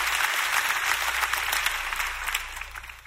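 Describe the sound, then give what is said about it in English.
A standing audience claps their hands in a dense, steady burst of applause, many overlapping claps forming a loud crackling wash that fades slightly toward the end, with a low hum underneath. “Clap your hands if you're ready for what the Lord is going to speak to you today.”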